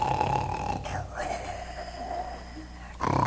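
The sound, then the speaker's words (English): A man imitates snoring with his voice, producing a drawn-out, rumbling snore, followed by a shorter snort near the end. “I mean, I snore when I'm in a deep sleep.”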